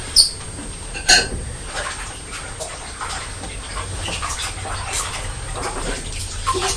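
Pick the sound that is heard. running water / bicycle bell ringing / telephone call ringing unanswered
running water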